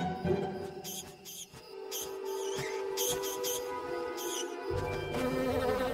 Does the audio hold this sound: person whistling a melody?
no